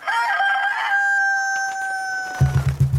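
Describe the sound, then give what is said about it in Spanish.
A fighting rooster named Carmelo, facing its opponent at a cockfight, flaps its wings and crows loudly in one long, strained cock-a-doodle-doo that trails off, followed by a few low, rough clucking sounds at the end. “Una vez frente al enemigo, el Carmelo agitó las alas y cantó.”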